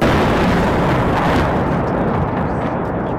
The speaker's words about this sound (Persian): صدای برخورد یک پهپاد انتحاری روسیه به یک ساختمان مسکونی در پایتخت اوکراین. حمله هایی که تلفات انسانی و میزان تخریب تأسیسات زیربنایی را در کیف و دیگر شهرهای اوکراین افزایش داده. پهپادهایی که به گفته منابع غربی از نوع شاهد 136 ساخت ایران هستند.